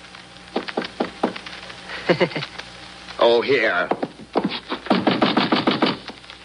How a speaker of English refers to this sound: And knock on the concierge's door.